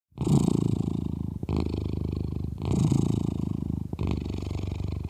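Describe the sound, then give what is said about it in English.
A domestic cat purrs steadily, a low rumbling drone that pulses in long alternating phases with each breath in and out, about four cycles, with no talking. “Here's the cat purr.”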